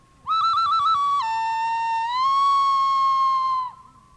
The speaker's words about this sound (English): She was up at the desk, and all of a sudden, she heard the call of that bird.